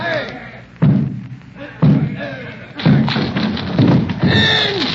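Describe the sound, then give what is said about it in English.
The door of a surrounded house is battered down with heavy, booming thuds, four blows landing about a second apart, while voices shout over the pounding. “Down with the door, then!”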